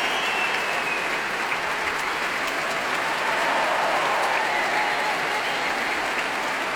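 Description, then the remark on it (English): Sustained, dense applause from a large audience at the Royal Albert Hall for the timpanist after a concert performance, a steady wash of many hands clapping at an even, loud level for the whole stretch, with no voices standing out. “Large applause there for the timpanist,”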